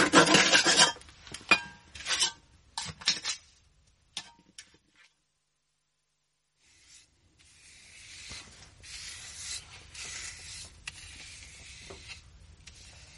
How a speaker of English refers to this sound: Nearly done, sir. Just have to smooth off the plaster a bit more.